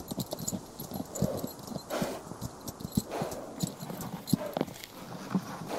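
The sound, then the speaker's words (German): Several horses' hooves clip-clop steadily, a busy, overlapping rhythm of sharp knocks over a faint background hiss, with no voices. “Stopp. Warten Sie hier mit den Pferden auf mich.”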